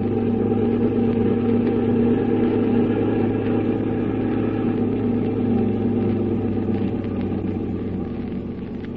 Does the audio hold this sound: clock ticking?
no